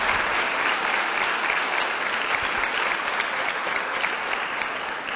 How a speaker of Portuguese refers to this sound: Tem uma coisa muito especial, irmãos. É que essa semana foi o aniversário dela, não é? Vamos dar uma outra salva de palmas, então, né?